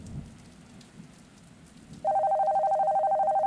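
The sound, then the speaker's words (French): A home landline telephone starts ringing loudly, a steady warbling electronic trill that cuts in abruptly over soft rain-like background hiss and keeps going to the end; the gendarmerie (police) is calling. “Alors, elle appelait sur le téléphone fixe de la maison.”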